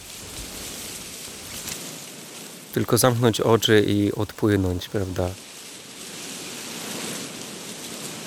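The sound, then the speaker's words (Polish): Reeds rustle in the wind with a steady, soft, hissing wash that runs the whole time, while a voice speaks briefly over it midway through. “Dzisiaj trochę wieje, a więc warto zbliżyć się do trzcin. Proszę bardzo, jak one szeleszczą kojąco.”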